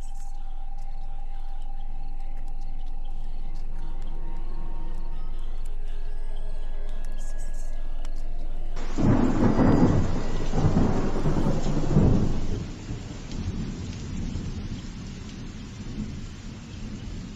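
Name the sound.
thunder rumbling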